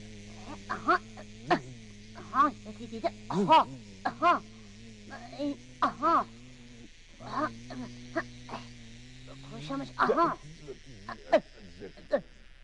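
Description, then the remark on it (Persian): A voice imitates flies with a long, steady, low nasal buzz that drones almost without pause, dipping briefly midway, while sharp bright bursts pop irregularly over the top. “میشه صدا وزوزه مگف بگی؟”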